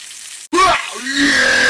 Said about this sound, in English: Do you hear the sizzling?